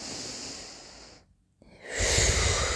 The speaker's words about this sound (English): Take a couple of deep breaths in and breathe out.